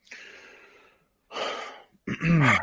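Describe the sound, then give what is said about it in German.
Heavy, snorting exhales: a long breathy puff, a shorter forceful one, then a louder final burst with a rough voiced edge, each separated by brief silence. “Oh, erster Schnaufer.”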